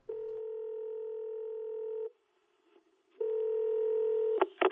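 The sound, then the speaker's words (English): A steady, loud telephone dial tone hums for about two seconds, stops, then returns before giving way to a few quick dialing beeps at the end. No voices are heard. “And there might even be a phone call coming up.”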